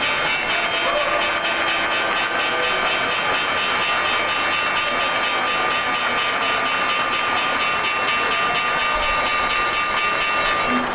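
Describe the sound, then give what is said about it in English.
A loud bell rings continuously for the whole stretch, its bright metallic tone struck in a rapid, steady rhythm with a harsh clattering edge and no voices over it. “That's a pretty loud bell.”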